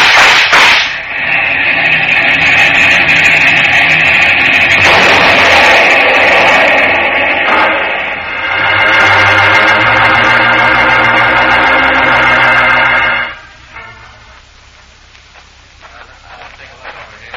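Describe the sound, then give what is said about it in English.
A train roars through a crossing and crashes into a blue Cadillac sedan, with a loud, sustained blaring tone over heavy rumbling clatter and crashing for about twelve seconds, then abruptly drops to a faint, low rumble. “I guess they tried to race the train to the crossing.”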